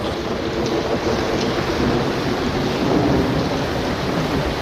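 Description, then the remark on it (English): A heavy thunderstorm fills the scene with steady, dense rain and deep rolling thunder rumbling throughout, loud and continuous with no voices present. “It was a big storm.”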